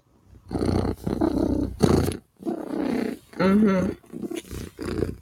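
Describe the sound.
A human voice imitates a cat's rumbling purr in several loud, growly bursts separated by short pauses, with a warbling, rolled quality in the middle stretch.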